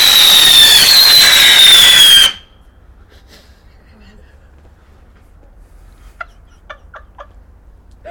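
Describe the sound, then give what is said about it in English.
A Roman candle firework gives a loud, rushing hiss with a high, slowly falling whistle for about two seconds, then cuts off abruptly into quiet broken by a few faint sharp chirps. “What is it? Roman candle.”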